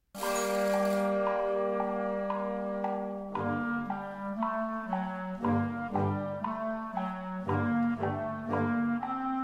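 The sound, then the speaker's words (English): Ringing clock chime bells play a slow, sustained melody like the Big Ben theme in a band piece, each struck tone rich in overtones and lingering into the next, with a sustained low band underneath; no voices. “it combines a lot of different sound effects and themes like the Big Ben theme”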